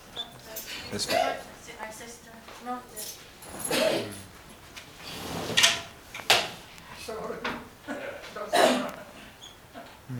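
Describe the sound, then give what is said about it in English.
A door opens with a few clunks and rattles, set among scattered voices and shuffling household noise. “Did you open the door? Yeah, the door.”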